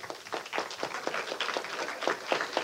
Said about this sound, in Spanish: Tenemos allí, por favor, un aplauso para el señor Kenny Ruiz.